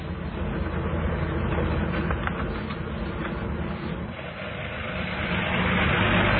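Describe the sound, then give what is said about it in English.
A steady, loud engine drone with low rumble and road noise, continuous for several seconds like a car interior while driving, with no voices. “Hey, stop the car.”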